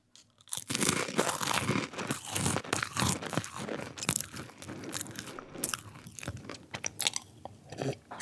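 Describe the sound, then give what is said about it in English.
Loud crunching of crackers being chewed, a steady run of dry crisp bites and crackles for several seconds with no talking. “brought out some crackers”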